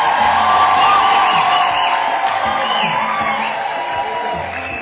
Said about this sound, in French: Voilà, que Dieu vous bénisse. Applaudissez pour eux. Amen.